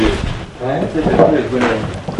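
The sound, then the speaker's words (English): A door swings shut with a dull knock and some rattling while people murmur and chatter indistinctly in the background throughout. “Gentlemen, I'm just going to close the door, if that's okay.”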